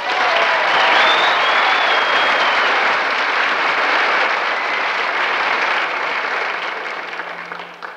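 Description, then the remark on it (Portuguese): Sustained audience applause fills the whole stretch, a dense wash of many hands clapping at steady volume, easing slightly toward the end, with a faint whistle early on. “Bom, vamos aproveitar o embalo desse aplauso para nós recebermos Otelo Zelone.”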